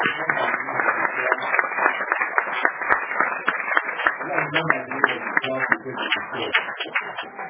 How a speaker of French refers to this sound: Applaudissons pour le Seigneur.